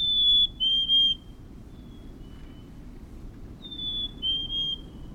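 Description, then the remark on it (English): A black-capped chickadee sings its clear, high two-note whistle, the second note slightly lower, repeated twice with a pause between, over a low steady rumble. “Even in the ruthless grip of winter, when the snow crunches beneath your boots, an ember glows in the lilt of a black-capped chickadee.”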